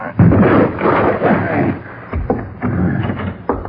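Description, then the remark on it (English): A door is forced open by men with a warrant, with a series of heavy, booming thuds and crashes, loud and uneven, with splintering noise in between the blows. “Well, it's only a door and we've got a warrant.”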